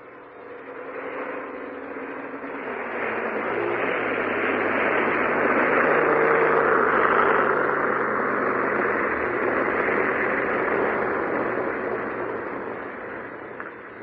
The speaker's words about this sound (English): I recognize the engine. That's absurd, my dear Countess, if you don't mind my saying so. All Wellingtons sound alike. Not to me, they don't.